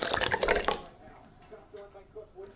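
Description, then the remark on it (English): A brief splash of liquor poured as a shot into a small glass in a bar, a quick glugging burst that settles into a soft, rising trickle before trailing off, fairly quiet. “Pour me a shot”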